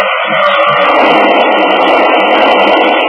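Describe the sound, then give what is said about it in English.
A getaway car approaching a roadblock at top speed without slowing, its engine roaring in a loud, steady, dense rush of noise that holds without a break for about three seconds, with no voices. “The car approaching is coming at top speed.”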